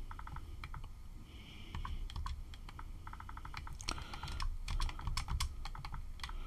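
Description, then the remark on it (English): Rapid computer keyboard typing, a steady stream of crisp key clicks in bursts with brief pauses, over a low background hum, with no one speaking. “Yes, I'm typing.”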